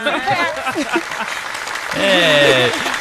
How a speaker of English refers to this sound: Snaps and claps